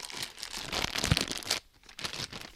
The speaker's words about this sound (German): Die Tüte wird geöffnet und das sind so schöne weiß, ja, man könnte sagen, so wie verschimmelt sieht's aus, ne?